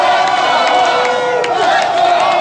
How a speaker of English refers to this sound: Let's go Hawks, those people were chanting. Fans poured into the streets celebrating hockey's Chicago Blackhawks and their second Stanley Cup championship in 4 years.